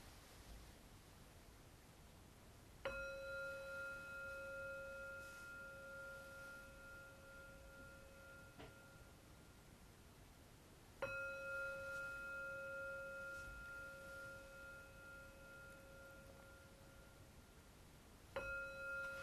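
Three separate meditation gong strikes open a breathing exercise with a mantra, each a sharp onset followed by a long, shimmering ring that slowly fades, spaced several seconds apart over a soft, steady background hiss.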